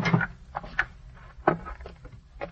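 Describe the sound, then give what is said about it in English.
A door handle is tried, producing a few separate metallic clicks and rattles spaced irregularly, moderately loud against a quiet background. “He's trying the door.”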